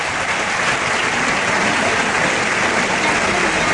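A large crowd at a bullring gives a sustained ovation to bullfighter Miguel Ángel Pereira as he steps out to the tercio, on an afternoon with no ears awarded: a dense, steady wash of clapping that holds at an even, loud level throughout without pause or voices.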